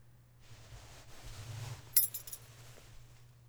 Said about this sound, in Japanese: ゼンマイの鍵は首から下げていますが。